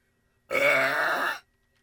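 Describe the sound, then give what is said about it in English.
A single long, loud burp from a woman from Virginia, lasting close to a second with a raspy, resonant tone, standing alone against silence; the world-record loudest burp by a woman, measured at 107.3 decibels. “The world's loudest burp by a woman.”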